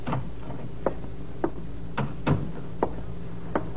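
Knocking on the door to Mr. Collins' office, about seven sharp raps spaced unevenly across a few seconds, each moderately loud, over a low steady hum with no voices.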